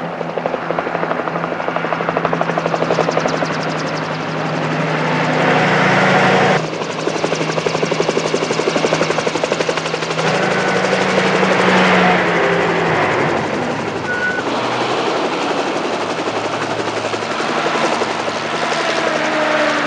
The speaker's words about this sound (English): Choppers! Choppers!